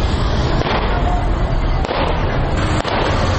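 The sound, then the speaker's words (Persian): A few sharp gunshots, fired into the air in parts of Kabul, Afghanistan, by convoy members carrying pistols and Kalashnikovs, crack at irregular intervals over a loud, continuous roar of crowd noise and commotion, with voices blending into the din. “شماره هم تفنگچه، کلاشینکوف و چاقو به دست گرفتند و در بخش‌های از شهر کابل شلیک‌های هوایی می‌کنند که این کار باشندگان کابل را نگران ساخته است.”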